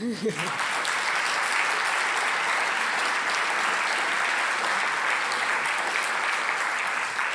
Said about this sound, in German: Ich glaube, an der Stelle verdient ihr auch einen Applaus.